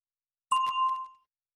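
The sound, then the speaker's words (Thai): A single bright bell ding rings out clearly after a moment of silence, a cue to answer a question in the Functioning in Business English lesson. Its tone sustains briefly before fading out within about half a second. “A question for you เชิญรอฟังเสียงกระดิ่งก่อนจะตอบ When did your parents get married?”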